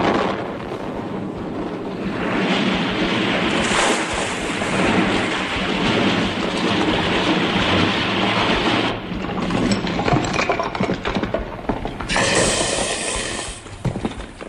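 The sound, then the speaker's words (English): A loud blasting explosion from a blasting operation at the bridge over the River Tay booms and rolls into a long, roaring rumble with crackling debris, swelling again near the end before fading, with no voices. “Now, strapped to the railway lines at Paddington, I announce part two, the bridge over the River Tay, the blasting operation.”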